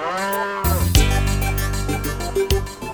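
A cow lets out a long, loud moo, a sustained low bellow with rich harmonics that swells and wavers before trailing off, with no voices present.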